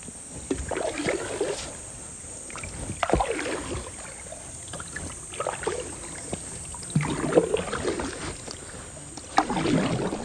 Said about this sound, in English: sit into our wooden boat, and we paddle away.